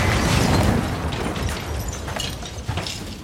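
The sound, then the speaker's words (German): An ATM (cash machine) explodes with a heavy roar, a loud, dense blast of noise with a deep rumble that lingers for a few seconds, scattered crackles and pops breaking through as it slowly eases off. “Was war das? Der Geldautomat.”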